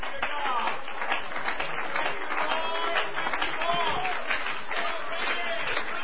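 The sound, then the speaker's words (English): An audience claps its hands in Jesus' name during a sermon, steadily for about six seconds, a dense, even wash of many hands at a constant loudness, with voices calling out and mingling through the clapping. “Let's clap our hands in Jesus.”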